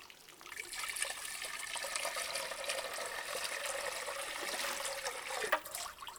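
Water pours steadily for several seconds, a continuous splashing rush as soap lather is rinsed off someone's body, with a brief louder splash near the end and no talking.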